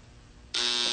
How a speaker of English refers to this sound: Did that buzzer startle you? Could you put a softener on that, Jeff? That buzzer was a little harsh that time.